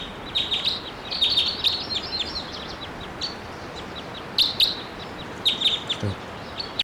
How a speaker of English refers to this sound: This bird just flew a long way away.